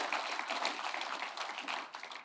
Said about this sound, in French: Est-ce qu'on peut applaudir pour tous ceux qui ont besoin de l'entendre aujourd'hui en disant « Fais confiance à Dieu ».